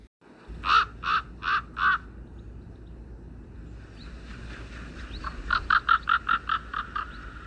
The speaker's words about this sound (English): And a great black raven darted down in front of her on the high road, and croaked dismally.